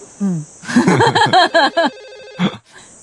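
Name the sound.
telephone bell ringing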